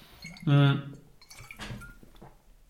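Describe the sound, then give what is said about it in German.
A brief vocal murmur, then quiet sipping and swallowing sounds as someone takes a quick sip of water, ending with a sharp clunk as a glass or bottle is set down. “So, ich nehme jetzt ganz kurz einen Schluck Wasser.”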